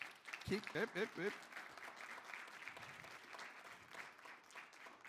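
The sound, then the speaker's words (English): A large crowd applauds steadily for several seconds at a worship service as military veterans stand, a dense wash of clapping with a few brief cheers or voices rising near the start before it settles into sustained applause. “I wasn't going to ask you to clap.”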